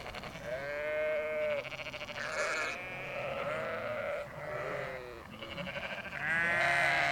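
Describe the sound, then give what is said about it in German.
Several sheep bleat repeatedly and overlap one another, loud, with a wavering, drawn-out quality that continues throughout without any talking. “Nee, wir müssen ein Schaf hochziehen.”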